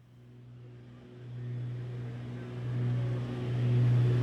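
A small six-seater propeller plane flying very low over Paraguay, its engine droning steadily, a low humming tone layered over a broad rushing roar that swells gradually louder over a few seconds, with no voices.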